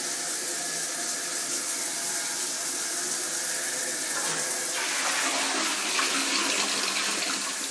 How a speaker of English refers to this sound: I better be trying to keep my iPhone dry. It's tricky in the shower.